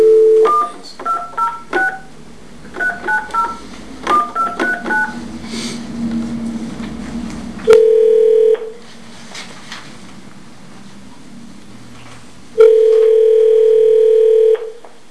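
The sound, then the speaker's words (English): During a city council public hearing, touch-tone beeps dial a consultant's number in quick bursts over a speakerphone, then two long, steady ringback tones sound with a pause between them, set against faint background noise. “Mayor, I need to call our consultant and get him on the phone.”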